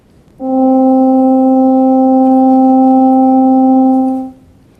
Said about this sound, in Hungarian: Korábban volt már egy animáció, amiben a csillagok lüktetését, összehúzódását és kitágulását láttuk, hogy annak megfelelő hang, hogyha ezt a hallható tartományba transponáljuk, az egy egyszerű zúgás. Ha minden igaz, akkor mindjárt meg is hallhatjuk.